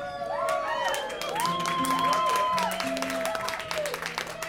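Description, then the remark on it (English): An audience applauds steadily, a dense patter of many hands clapping at even loudness, with high whoops and cheering voices sliding over the top throughout. “And I love an applause before I start.”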